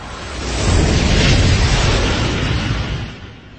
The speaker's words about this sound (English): then hops in the halo and kicks the thrusters into gear. They thunder to life, and the ship lifts into the air.